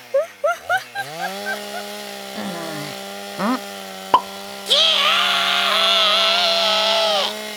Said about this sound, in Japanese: 先輩、チェーンソーなんか引っ張り出してどないするんですか？